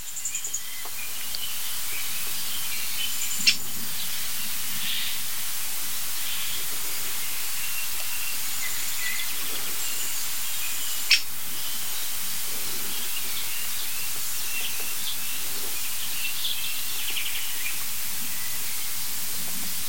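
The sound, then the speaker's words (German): Two short, sharp, high-pitched bird calls ring out about seven seconds apart over a steady hiss of background noise, with nothing else standing out between them. “So, jetzt scheinen die Abstände etwas abzunehmen. zwischen den Rufen.”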